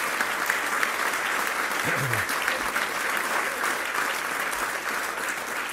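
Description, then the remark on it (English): A dinner audience at the first big social dinner of the calendar breaks into sustained applause for the President and the First Lady, a dense steady patter of many hands clapping at even loudness throughout, with a brief low murmur of voices partway in. “So if we give a great round of applause to the President and the First Lady.”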